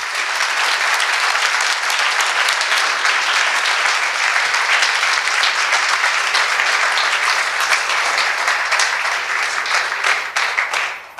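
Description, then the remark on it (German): Sustained applause from a sizable audience for the speakers who gave lightning talks, dense overlapping clapping that stays loud and steady for about eleven seconds before starting to thin out at the very end. “Nochmal bitte einen großen kräftigen Applaus für alle, die hier so einen tollen Lightning Talk gehalten haben.”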